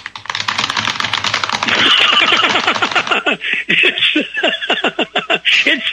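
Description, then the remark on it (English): Rapid keyboard typing, a dense stream of quick clicks that runs for several seconds with hardly any pause, with no one talking over it. “It's the cat typing away.”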